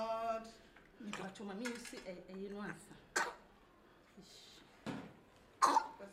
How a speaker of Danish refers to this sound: Endelig kommer barnet ud. Det er en dreng. Han hoster lidt, men er bleg og stille.